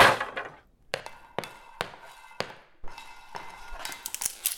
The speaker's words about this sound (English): This stick is too weak. I barely took a shot and it shattered into a million pieces.